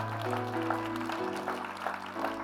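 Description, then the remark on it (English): A church audience at Island Church claps steadily and continuously, the dense patter of many hands blending together over sustained organ or keyboard chords playing underneath. “Give him a hand clap.”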